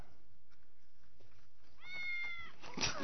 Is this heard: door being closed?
no